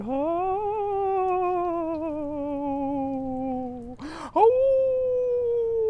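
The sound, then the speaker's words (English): An opera singer from Kazakhstan imitates a coyote howl while watering his garden in a sunny backyard in Boyle Heights, Los Angeles: a long, loud, wavering vocal tone that rises and slowly falls, breaks off with a short gasp, then swells into a second sustained howl. “That's more like a wolf, isn't it? What kind of sounds coyotes do?”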